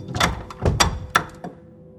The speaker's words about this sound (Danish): I kommer op til døren. Den er ikke låst. Banker på. Vi banker på, ja.